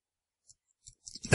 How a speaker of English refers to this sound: What is that clicking sound? Pen. It's his pen. He's clicking his pen.